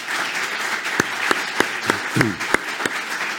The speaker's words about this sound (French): On peut vous applaudir, Brigitte Barège.